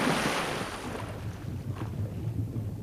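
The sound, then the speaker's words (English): A loud, rushing splash as something plunges into lake water, the hiss of churning water fading into a low, bubbling rumble over a few seconds, with no voices. “Water. Felt like water.”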